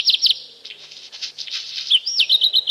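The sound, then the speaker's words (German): A black redstart (Hausrotschwanz), named garden animal of the year 2024 by the Heinz Sielmann Foundation, sings: a short burst of high, scratchy chirps gives way to a buzzy, crackling middle, then a quick series of bright, repeated whistled notes, with no voices. “Es ist der Hausrotschwanz.”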